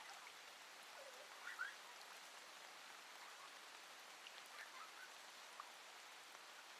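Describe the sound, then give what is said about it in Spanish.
A sudden rain shower falls in a constant soft hiss, with a few brief droplet taps standing out near the start. No voices, just the even wash of the shower throughout. “Dan vueltas sobre sí mismos y se divierten bajo aquella lluvia repentina.”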